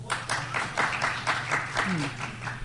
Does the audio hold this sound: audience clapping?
yes